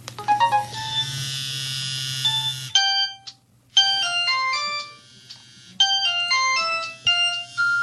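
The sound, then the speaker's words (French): A test of an emergency alert call ringtone plays loudly: bursts of bright electronic melody notes repeat with short pauses, over a low buzzing drone at first. No one speaks. “On va faire un test, comme ça vous aurez le message qu'on entend à 2h du matin lorsqu'il y a une crise.”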